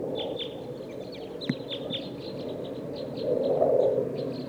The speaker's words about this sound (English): I think there's a flock of type 2 birds here in the top of this pine tree.